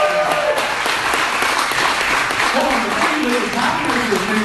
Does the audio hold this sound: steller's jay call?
no